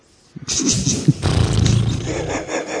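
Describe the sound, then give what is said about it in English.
A person imitates a horse's pshaw, letting out a loud, breathy, blustering snort that rumbles on for about two seconds with a rough, roaring texture. “I'm pshawing that as a horse would.”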